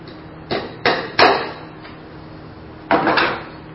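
A hammer drives a nail into a wooden cross, nailing a paper with a written sin to it, with sharp knocks: three spaced blows, a short pause, then a quicker burst of three more. No one speaks, and a faint hum sits underneath.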